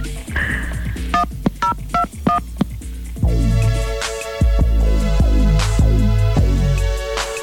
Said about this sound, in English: Press 1021 on your phone right now.